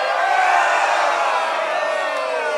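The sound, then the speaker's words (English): A dense crowd of men watching a stage performance at night roars and whoops loudly and continuously, a sustained wall of excited voices with no pauses, energetic throughout. “The men in the crowd watch in awe, letting out loud roars.”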